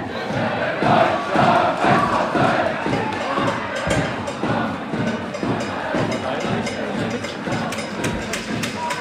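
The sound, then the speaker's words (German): A big stadium crowd of Werder football fans chants together loudly and continuously at a match against Turbine, singing through the 90 minutes with a big choreography, voices merging into a roaring rhythmic song with regular beats, like a packed terrace singing in unison. “Die haben eine fette Choreo aufgezogen, 90 Minuten lang quasi durchgesungen.”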